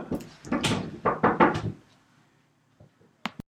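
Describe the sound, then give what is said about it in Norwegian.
A quick run of loud, heavy knocks on a door, followed by a short pause and then two sharper raps. The knocking is forceful, and no one speaks. “Ja, da har vi fått inkassokreverne på døra, som dere kanskje hørte”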